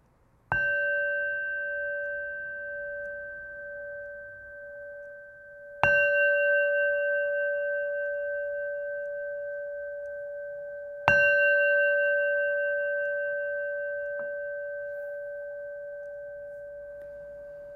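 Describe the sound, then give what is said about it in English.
A meditation bell is struck three times, about five seconds apart, each strike a bright, clear metallic tone that rings out with steady harmonics and slowly fades, with no voices. “You may notice that we always ring the bell 3 times around here, and so that is always for the Buddha, the Dharma, and the Sangha, to remind us of those 3 aspects.”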